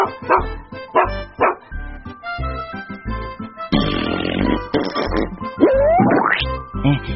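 A dog barks loudly in a rapid string of sharp bow-wows, turning into excited yips and a rising whine near the end, with no voices present.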